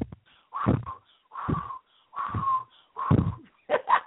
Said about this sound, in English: Let's blow it away. Let's go, y'all. Breathe in and blow out. Some of y'all need to keep blowing.